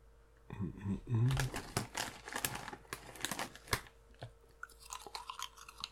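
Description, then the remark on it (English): Crunchy chewing, with loud, irregular crackling bites packed together for several seconds before tapering into softer, scattered crunches. “Couldn't get it in my mouth.”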